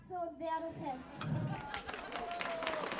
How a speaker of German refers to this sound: Die Zuschauer auf der Straße klatschen.